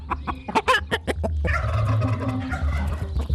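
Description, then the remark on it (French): A hen in a henhouse squawks loudly after waking as it is gently lifted off its egg, starting with a rapid burst of harsh, sharp cries, then settling into a steadier stream of agitated clucking calls, with no one talking. “Il souleva délicatement la première poule pour ramasser son œuf, mais celle-ci se réveilla et cria.”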